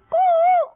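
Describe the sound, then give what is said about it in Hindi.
A child's voice imitates a koel call: one sustained, clear, hooting note held for about half a second with a slight waver, fairly loud, with no other sound around it. “कोयल की आवाज तो यूं होती है और इसकी आवाज तो पसंद की जाती है काफी।”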